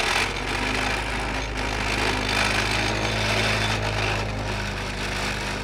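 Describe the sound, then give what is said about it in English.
A tractor driven by Coronado pounds a 10 to 12-foot fence post, held in place by a worker, into the ground between tart cherry trees in Coaden: a loud, steady engine drone with a low hum and a constant metallic rattle running for several seconds, with no talking. “The tractor shoves the post into the ground, loudly rattling along the way.”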